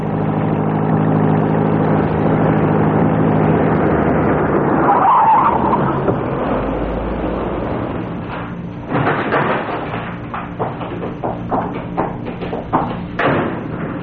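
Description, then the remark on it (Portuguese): A car engine hums steadily, then the brakes squeal briefly as the car slows and stops so the driver and passenger can change seats. The engine settles to an idle, followed by clunks and shuffling movement. “Vamos, pare o carro.”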